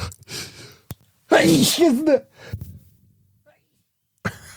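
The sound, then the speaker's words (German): A single loud sneeze with a drawn-out, voiced wavering build-up ending in a sharp burst, surrounded by brief breathy noises and quiet pauses. “Ist euch schon mal aufgefallen, dass im Alter das Niesen immer lauter und aufwendiger wird?”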